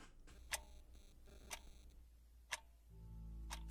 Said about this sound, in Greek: Τικ-τακ το ρολόι χτυπά, χτυπά και τους δείκτες γυρνά.